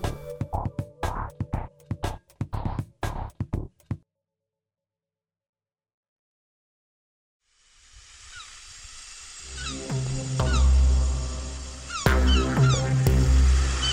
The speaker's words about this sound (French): Les goélands dans le ciel de Toulouse étonnent les passants.